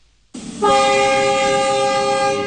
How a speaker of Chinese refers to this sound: 随着一声汽笛长鸣，一辆满载着汽车配件、机械设备、日用百货等货物的中欧班列从石家庄国际陆港发出，奔向俄罗斯。